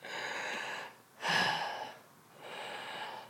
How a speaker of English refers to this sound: Yeah, well, just when you're through this, can you just do some breathing normally?